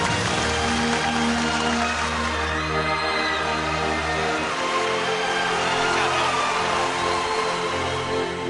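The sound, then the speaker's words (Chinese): Dense, steady applause and cheering from a large live audience welcoming a 68-year-old Henan zhuizi folk performer onto the stage, holding a constant loudness for the whole stretch, with low sustained musical tones beneath it during the first half. “郭老师，您听到现场所有的观众朋友们，欢迎您的这样一种欢呼声吗？”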